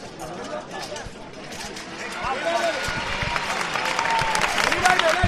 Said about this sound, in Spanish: La Plaza de Santo Domingo rompe a aplausos, porque la verdad que ha sido una salida muy complicada.